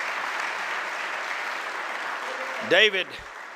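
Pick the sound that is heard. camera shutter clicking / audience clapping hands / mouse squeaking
audience clapping hands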